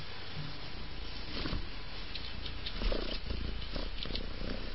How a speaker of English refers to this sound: Can you hear him? Now, don't stop purring just because I put you by the microphone. Come on. He's all tickled and happy. And rubbing me.